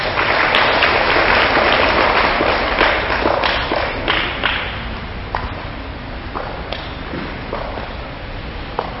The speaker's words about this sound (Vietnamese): Rất giỏi, cho một tràng pháo tay.